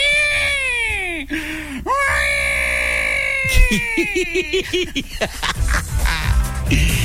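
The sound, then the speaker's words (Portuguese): A voice imitates a newborn baby's cry: two long, high, wavering wails, then a run of choppy, hiccuping sobs and squeals, loud throughout. “Como é que foi o primeiro choro seu”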